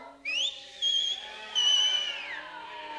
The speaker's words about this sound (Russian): Гениально, но как их перекричать? А я сейчас свистну.